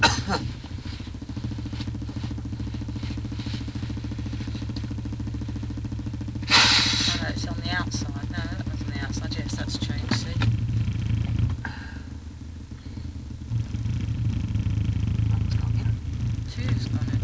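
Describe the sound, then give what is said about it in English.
A car engine rumbles steadily as a car pulls out, with a brief louder rush partway through and the low hum continuing; a person talks over the engine noise. “There's a car coming out, so it should change colour.”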